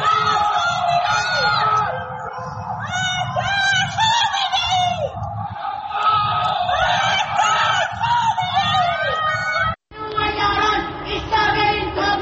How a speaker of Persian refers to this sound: در یکی از ویدیوهای منتشر شده معترضان از پنجره فریاد مرگ بر خامنه‌ای سر می‌دهند، در حالی که در پس زمینه آتشبازی جمهوری اسلامی به مناسبت سالگرد انقلاب 57 دیده می‌شود.